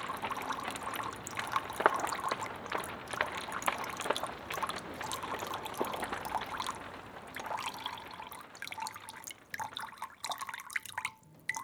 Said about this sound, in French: Le clapotis de l'eau. L'eau qui coule, l'eau qui coule, l'eau qui coule, l'eau qui coule, l'eau qui coule, l'eau qui coule.